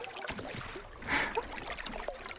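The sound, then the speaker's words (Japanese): Gentle waves lap and trickle close by against a moored boat's hull, a soft steady splashing with one brief louder slosh midway, no voices present. “近くを波が通って音を奏でてくれてる。”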